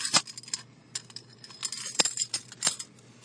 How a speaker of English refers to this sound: Okay. So, I gotta pull into my place here. Hold on. Okay, where the fuck are my keys? There we go.